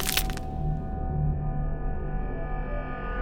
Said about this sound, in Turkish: Sizde akan ırmakların, kuş cıvıltılarının, deniz dalgalarının ve kırılan kemiklerin sesini dinlemeyi sever misiniz?